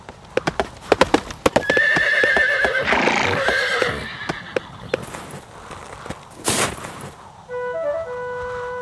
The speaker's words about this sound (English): About 8 or 9 black stallions riding up.